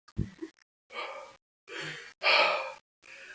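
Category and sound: vocal imitation, imitated heavy breathing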